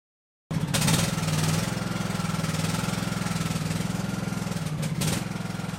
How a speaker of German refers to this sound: sitzt stolz auf einem neuen Rasenmäher.